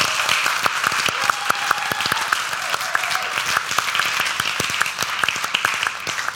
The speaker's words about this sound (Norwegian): Så jeg har lyst til å også, skal vi gi en applaus til Eirik, sånn at han...